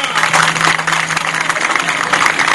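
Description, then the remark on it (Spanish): An audience at an event in José Martí park in Miami applauds steadily, many hands clapping into a dense, loud wash of sound that holds without a break, with a faint low hum running underneath. “Un aplauso.”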